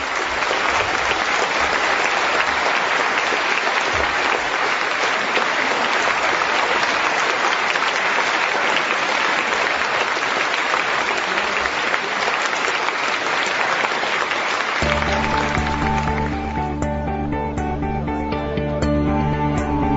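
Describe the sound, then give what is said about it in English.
A large audience claps loudly and steadily for about fifteen seconds in thanks to the evening's speakers, a dense crackling wash of hands. The applause then fades as sustained musical tones take over. “Can you join me, though, in giving a really warm round of applause and thanks to all our speakers this evening?”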